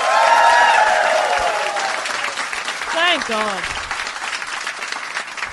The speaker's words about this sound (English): first of all, we start with, give me a round of applause if you have heard Do Go On before.